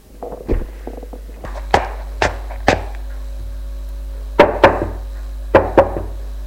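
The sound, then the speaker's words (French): Sharp knocking on a bedroom door as a mother knocks at her son's room: three evenly spaced raps, a pause, then two quick pairs of knocks. Faint shuffling and soft thuds come before the first knock, and no one speaks. “Elle a frappé à la porte de sa chambre.”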